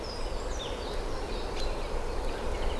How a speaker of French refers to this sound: Une forêt